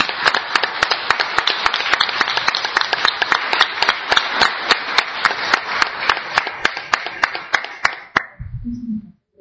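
Sustained audience applause, a dense crackle of many hands clapping steadily for about eight seconds, then stopping abruptly with a brief low murmur at the end.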